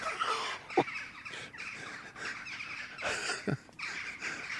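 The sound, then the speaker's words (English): A large flock of birds calls at a roost in woodland trees, a dense, continuous chorus of overlapping harsh croaks and caws as a late flock of another 250 young birds comes in, with a few louder calls standing out from the wash. “Crazy late flock of teenagers have just come in. Another 250.”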